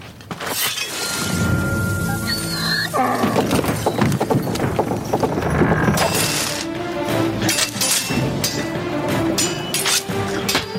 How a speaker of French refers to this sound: Il y a un âne. Il y a un âne, oui. Exactement.